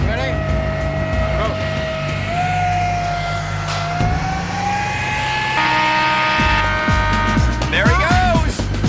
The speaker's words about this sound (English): All right, start your engine! It just sounds like a jet. It really does sound like a jet engine.